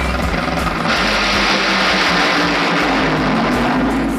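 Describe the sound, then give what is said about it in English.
A Honda Civic engine roars loudly and continuously, a dense, harsh drone that swells and brightens after the first second as it revs hard, with no voices. “Was that Santino's Honda Civic just roaring out there?”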